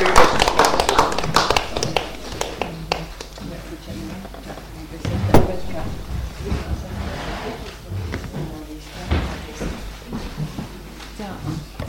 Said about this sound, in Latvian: Tas nav galvenais, ir svarīgāks notikums bijis, ir domes priekšsēdētāja bijusi dzimšanas diena. Tad nu, mēs visi ar aplausiem skaņiem sveicam.